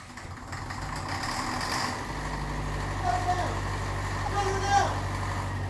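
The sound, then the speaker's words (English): A truck engine with a plugged exhaust cranks and catches about two seconds in, then settles into a steady, loud, low rumble that keeps running to the end, with some rattling and muffled voices over it. “Shut her down! Holy crow, don't that stink? Something's plugged that exhaust, all right.”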